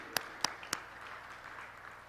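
A crowd applauds itself, with three sharp claps standing out at the start over a steady, moderately quiet wash of clapping from many hands.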